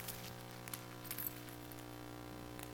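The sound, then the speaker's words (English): Chocolate candy being tossed and scattering: faint, brief clinks and rattles of small pieces landing in a few scattered bursts, over a steady low background hum. No one speaks. “Just throwing out candy.”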